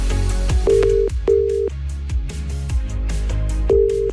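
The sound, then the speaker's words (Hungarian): An outgoing phone call's ringing tone during a live radio request programme: steady electronic tone bursts, each about half a second, repeating over an upbeat music bed with a driving beat. Nobody speaks. “Akár fordítva is működünk, add meg nekem a címzett telefonszámát, én pedig rácsörgök, és így lesz igazi a meglepetés, mert a reakcióját a rádióban is hallatod.”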